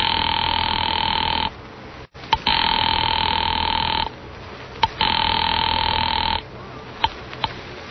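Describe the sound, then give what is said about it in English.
A telephone ringing tone heard down the line while calling an office, three long steady bursts of about one and a half seconds each separated by short quiet gaps, with faint clicks in between. No one speaks. “I will be glad to try that number for you. One moment, please.”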